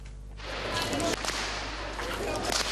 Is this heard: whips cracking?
yes